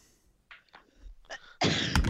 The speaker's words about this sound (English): God bless you. 13. That was a cough.